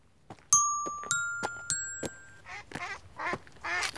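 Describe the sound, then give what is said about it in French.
A few ringing chime-like tones give way to a run of raspy quacks from a duck on a pond, four or five in quick succession, fairly loud with no talking. “Madame la canne dans la mare, que fait-elle donc? Coin, coin, coin, coin, coin.”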